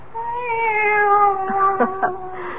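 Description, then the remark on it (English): A female cat gives a single long, drawn-out meow with a wavering, slightly strained tone, loud, with a few faint clicks near the end and no talking. “It's the cat. She's back.”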